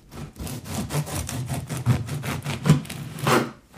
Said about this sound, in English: Well, quite a difficult sound there. What do you think he's doing? He is cutting wood. Well done, cutting wood.